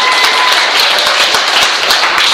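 Steady audience applause for a child, a dense wash of many hands clapping at an even loudness for the full couple of seconds, with scattered sharper claps standing out.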